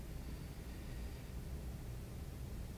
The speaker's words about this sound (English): The hissing of the snake.